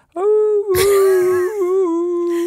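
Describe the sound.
A person imitates their dog's whine as it sounds when they drive to the dog forest: a sustained, high nasal tone that wavers and bends in pitch for about two seconds, loud, with no other talking.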